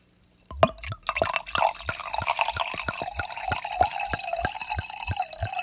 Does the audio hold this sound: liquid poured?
yes